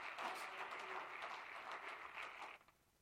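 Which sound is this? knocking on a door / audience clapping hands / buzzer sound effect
audience clapping hands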